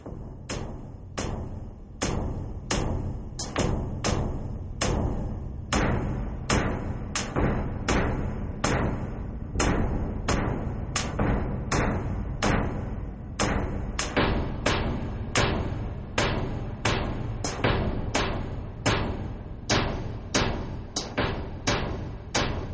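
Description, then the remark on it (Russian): Loud, steady drum beats pound roughly twice a second over a dense orchestral backdrop at the opening of a Caucasus-inspired orchestral piece, giving a driving, insistent rhythm that continues throughout with no voices. “Какой Кавказ без ударных инструментов?”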